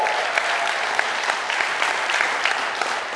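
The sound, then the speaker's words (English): Steady audience applause for a speaker as he comes up, a dense crackle of many hands clapping at an even level with scattered sharper claps standing out, and no voices. “So give it up”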